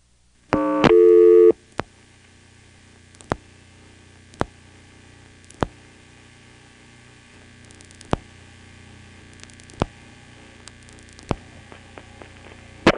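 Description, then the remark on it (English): A telephone line dialing out a 1+ long-distance call: a short, loud tone at the start, then evenly spaced sharp clicks over a steady low line hum, with no voices. “First, here's what happens when you try to dial a OnePlus call from here.”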